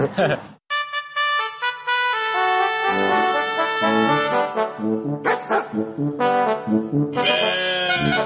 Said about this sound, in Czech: Evo da pustimo mozak na paše. S ovcama, evo.